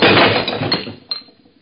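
A wine glass crashed to the floor shatters with a loud, bright crash, its jangling fragments scattering and fading over about a second, followed by one last small tinkle of a falling shard.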